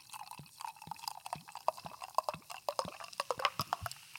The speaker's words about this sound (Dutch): Met een flinke hoeveelheid koolzuur. Ja. Deze twee. Die twee, ik ga ze even inschenken.